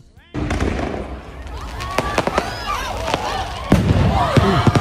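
Loud fireworks set off by the band during their set explode, booming and crackling in quick, irregular bursts, one especially sharp bang near the end, scaring the audience over the steady roar of a large crowd at an outdoor concert.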